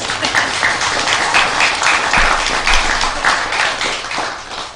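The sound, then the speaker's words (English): A crowd applauds steadily for several seconds, a dense wash of many hands clapping at once, fairly loud, with no talking over it. “So what do you think? You can clap. It's okay.”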